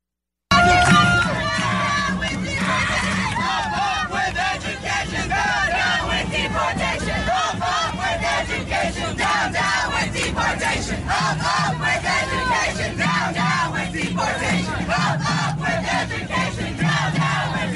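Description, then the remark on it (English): A large crowd at a civil rights rally in Los Angeles shouts the protest slogans "up, up with education, down, down with deportation" in unison, a dense wall of many voices rising and falling in steady chanted bursts that keep going without a break at full loudness. “Friends, it goes on for quite some time, but she is right in the middle of the video with the chant and swirling around as they are yelling, up, up with education, down, down with deportation.”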